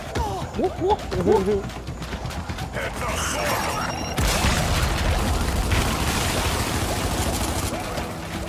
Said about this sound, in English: Oh, I walked into the explosion.